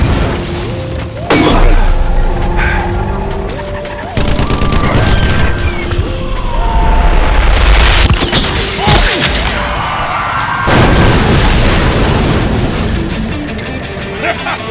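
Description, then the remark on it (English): Heavy cannon fire from truck-mounted tower cannons during a vehicle chase booms out in several loud blasts, spaced a few seconds apart over a dense, chaotic wash of battle noise and gunfire, with voices faintly mixed in. “The trucks with the tower cannons were in the second pack and were just getting a fix on their would-be victims.”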